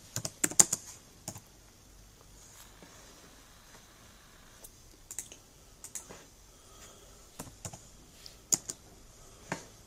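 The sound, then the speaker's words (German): Irregular typing on a computer keyboard, retyping text into a Word document, with bursts of sharp key clicks separated by short pauses, fairly quiet, with no voices. “Ich glaube, der hat gerade so ein anderes Word-Dokument aufgemacht und tippt einfach alles nochmal ab.”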